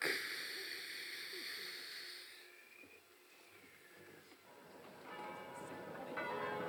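Large bells in Vancouver, Washington ring out to warn people to evacuate the city as Martians approach, in long, overlapping, resonant tones that fade midway and then swell again toward the end, moderately quiet, with no one speaking.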